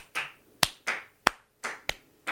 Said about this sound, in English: By the way, let's all say thank you, Peter Ducey, for asking the question we all wanted to hear asked. Thank you, Peter Ducey. Gotta clap.